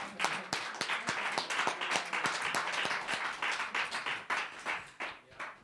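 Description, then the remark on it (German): An audience claps for the guest performers for several seconds, a dense crackle of many hands with sharp individual claps standing out, steady and fairly loud before tapering slightly at the end. “Ja, wollen wir unseren Gästen noch einen Applaus geben?”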